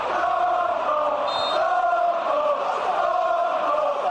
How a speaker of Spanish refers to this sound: Y en los últimos meses hemos hablado mucho de lo que ocurre en el fútbol, donde los gritos y los insultos racistas se escuchan en prácticamente todos los campos.